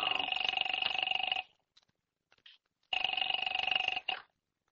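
household object, telephone ringing

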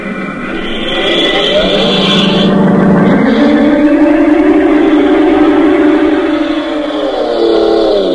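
vehicle, car driving off

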